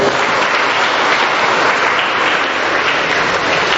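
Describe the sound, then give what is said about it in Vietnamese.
A large church audience claps steadily and loudly for several seconds, a dense, continuous wash of applause with no voices rising above it. “Chúng ta cùng tạ ơn Chúa và chúc mừng thành công này một tràng pháo tay thật lớn.”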